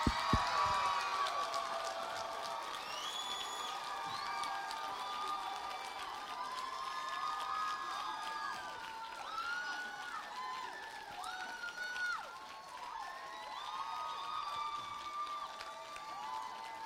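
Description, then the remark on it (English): A large audience claps steadily while people whoop, hoot and holler over it, a dense, sustained roar of cheering that stays loud for the whole stretch. “I want everybody that loves Shirley Corey to clap and hoot and holler.”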